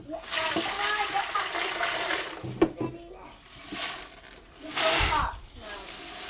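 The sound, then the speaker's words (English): Water is poured and swished around in a fish tank, a steady splashing and trickling that fades briefly midway, then surges again in a louder slosh near the end. “I'm going to put water in. We'll just give him one more swish.”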